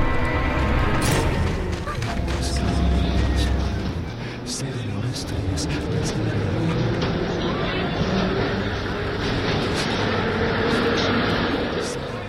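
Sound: subway train arriving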